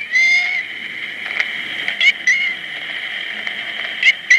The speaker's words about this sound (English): But the eventual translation of what the cat was trying to say was loose, to say the least. The best Joe could come up with was that the cat was saying, help me. What? But you can judge for yourself. I actually have the tape. Okay. Listen here.